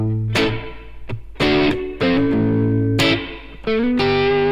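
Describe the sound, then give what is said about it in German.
A distorted electric guitar strikes a series of loud, sustained chords in uneven rhythm, each ringing out with a springy reverb wash from a spring reverb placed before the amp; no one speaks. “Das ist das typische Feder halt.”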